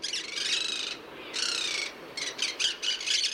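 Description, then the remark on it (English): Monk parakeet (Quaker parrot, native to southern South America) calls: a run of harsh, grating squawks in quick bursts, some long and some clipped short, clear, with no one talking. “is also known as the Quaker parrot, and it's a native of southern South America.”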